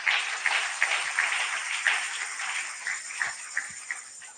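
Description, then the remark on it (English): Many people clapping together unto the Lord in a steady, dense wash of claps, crisp and continuous for the whole stretch with a few sharper individual claps standing out. “Clap unto the Lord, please.”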